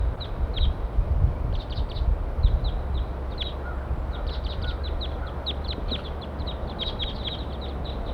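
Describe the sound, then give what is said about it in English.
Eight wild birds, gathered together in a pine tree, call over and over, a flock of short, high chirps and peeps coming in scattered bursts throughout, over a steady low rumbling background. No one speaks. “Eight birds all together now.”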